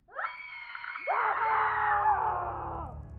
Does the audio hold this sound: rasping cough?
no